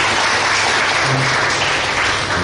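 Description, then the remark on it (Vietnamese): A large audience of monks, nuns and lay students claps steadily in a school hall, welcoming an offering delegation, a dense, continuous wash of applause filling the room at full volume with no pauses and no voices over it. “Xin đại chúng cho một tràng pháo tay nữa.”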